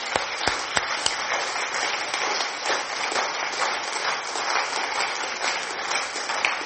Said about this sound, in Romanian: Oameni buni! Să știți că nu e un păcat să-i aplaudăm pe oameni. Putem să o facem din toată inima. Haideți să-i aplaudăm, merită!